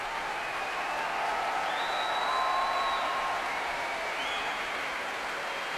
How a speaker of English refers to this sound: And as you can probably hear, the crowd at the Royal Albert Hall going absolutely wild for Marin Alsop tonight.